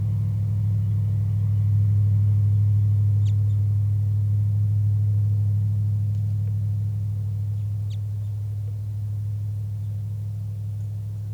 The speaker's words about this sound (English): Very soft flight calls by the wild bird.